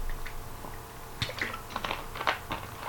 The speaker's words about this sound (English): Excuse me for my green tea break in honor of Chinese New Year.